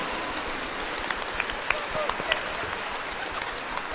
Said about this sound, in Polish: Kochani, z uśmiechem na twarzy, z radością w sercu, siebie nawzajem przywitajcie gorącymi oklaskami. Gorącymi!